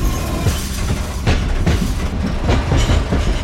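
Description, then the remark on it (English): A train rolls along the tracks with a steady, loud rumble, punctuated by rhythmic clickety-clack thumps of wheels crossing rail joints. “Desembarque pelo lado direito do trem. Exit train from doors on right.”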